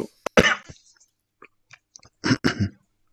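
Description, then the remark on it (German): A person chokes on their own saliva and coughs, a sharp burst of harsh coughs, then small sputters and throat noises, followed by two more strained coughs. “Ja, habe mich wohl mit meiner eigenen Spucke verschluckt.”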